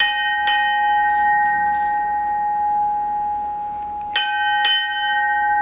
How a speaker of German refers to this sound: Albrecht schlägt die Schiffsglocke 4-mal. In der Schifffahrt das Signal für den Tod.